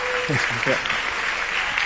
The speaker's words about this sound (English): That was really awesome, right? Shall we give him another round of applause?